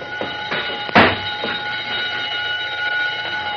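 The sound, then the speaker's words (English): A burglar alarm on a vault, set off by touching the alarm wire along the bottom of the door, rings continuously at a steady, fairly loud pitch, with a brief sharp clatter early on. No one speaks. “The burglar alarm wire is along the bottom of the door. A touch will set the alarm off, and who can prove a mouse didn't do it?”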